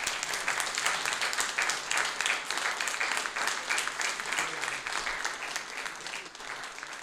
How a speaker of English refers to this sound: And now please, please applaud for Khatchig Mouradian.